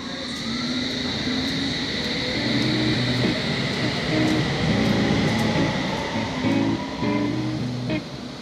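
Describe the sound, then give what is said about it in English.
A London Underground train rumbles steadily beside a platform at Barbican station, a continuous loud roar with a high electric whine and faint shifting tones from the motors, no voices present. “Mind the gap between the train and the platform. This is Barbican.”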